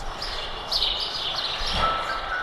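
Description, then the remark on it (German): Birds chirp and sing outdoors in Berlin against a steady background hiss, with bright repeated calls rising and falling. No one speaks. “Ja, Vögel hören sie im Moment satt draußen.”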